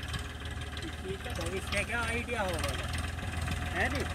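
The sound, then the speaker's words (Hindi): A tractor engine runs with a steady, low, continuous rumble throughout, moderately loud, while voices talk over it. “ट्रैक्टरों की ताकत का जो है पूरा जौहर, जो है पूरा पैसा जो है लगाया हुआ है मशीनरी में, पूरा वसूल करते हैं।”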